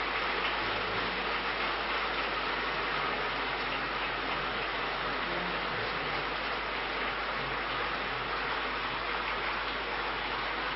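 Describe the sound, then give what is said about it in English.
Sustained applause from an audience, a dense, even wash of many hands clapping that holds steady at the same loudness throughout, with no voices heard. “Clap for all that.”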